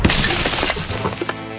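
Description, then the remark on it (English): A muffled underground explosion: a dull, heavy thud that rolls into a steady rumble with scattered crackling debris, sustained for over a second, with no voices. “Now for a completely gratuitous explosion underground.”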